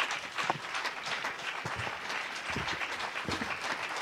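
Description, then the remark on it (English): A church audience claps steadily throughout to welcome a pastor to the podium, a dense, continuous wash of many hands with a few sharper individual claps standing out, and no voices over it. “All right, if you are clapping for Jesus, let's do it properly.”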